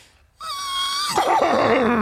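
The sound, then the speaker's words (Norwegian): After a brief silence, a person imitates a horse whinny: a steady, high nasal tone that breaks into a loud, rough, quavering neigh. “Og da skal du komme med beste hest?”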